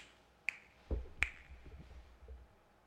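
Two crisp finger snaps, about three-quarters of a second apart, with a soft low thump just before the second one and faint background hiss otherwise.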